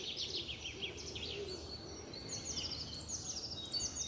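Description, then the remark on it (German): Several birds chirp and twitter continuously in high, quick bursts in the Wernecker Schlosspark, a large park, recorded on a mobile phone, over a steady low outdoor rumble; no one speaks. “Ich muss mal still sein, damit ihr die Vögel auch richtig schön zwitschern hört.”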